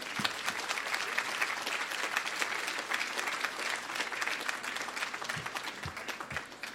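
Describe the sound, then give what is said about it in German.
An audience applauds two people being called onto the stage, a dense, even wash of many hands clapping at a constant loudness for several seconds, with no voices standing out. “Und einen Applaus bitte für die beiden.”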